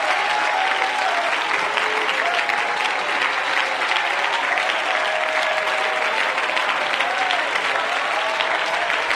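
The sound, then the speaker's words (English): An audience claps hands to the Lord in a dense, sustained wash of applause that holds steady and loud for the whole stretch, with faint voices rising here and there beneath it. “Oh, clap your hands to the Lord, all you people, and shout unto God with a voice of triumph.”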